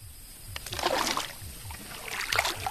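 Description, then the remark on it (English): A long-tailed boat is pushed through the calm waters of the Kokong Estuary in rural Cambodia, a steady low engine putter pulsing underneath while gentle splashes and trickling water rise and fall. “pushes his long-tailed boat through the calm waters of the Kokong Estuary.”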